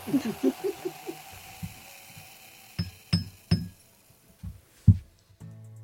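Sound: glasses clinking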